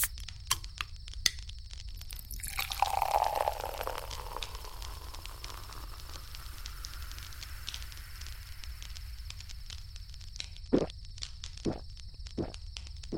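Beer splashes into a paper cup in a short gush outdoors, where a fire has been lit, then a soft fizzing hiss slowly fades over a low, steady background crackle, followed by a few sharp taps near the end.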